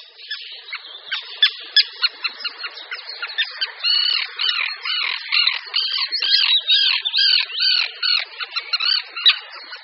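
Common terns call continuously in harsh, grating squawks, many rapid overlapping cries running together for about ten seconds, fairly loud and high-pitched, with no voices present.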